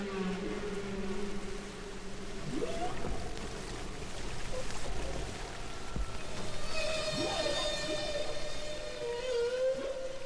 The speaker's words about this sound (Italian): Un passaggio di una registrazione che Roger e Katie Payne realizzarono per 24 ore di fila. Si tratta di tre balene, ognuna canta a intervalli regolari.